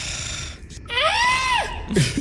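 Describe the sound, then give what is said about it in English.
A person imitates a screaming goat with one loud, strained bleat that rises and then bends downward, lasting under a second, with no other voices around it. “And in order to undercut Kyborg's attempt at sounding cool, I just scream again as a goat.”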